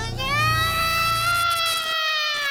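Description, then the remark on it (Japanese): A baby wails in one long, sustained, high-pitched cry that holds steady and loud for a couple of seconds, with no speech over it. “赤ちゃんが困っているではないですか。”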